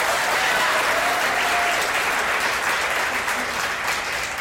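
A crowd claps steadily for several seconds, a dense, continuous patter of many hands that stays loud throughout with no voices rising above it.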